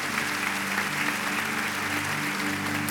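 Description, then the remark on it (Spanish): A church audience applauds its volunteers, a dense, continuous wash of many hands clapping at an even loudness throughout, with a low hum running underneath and no voices standing out. “Quiero que le den un aplauso a todos esos voluntarios que trabajan todo el tiempo aquí fuerte.”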